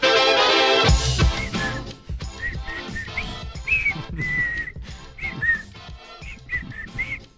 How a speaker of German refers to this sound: Diese schwachen Versuche von dir zu pfeifen, ne? Ich kann halt wirklich null pfeifen, aber anscheinend immer noch ein bisschen besser als du,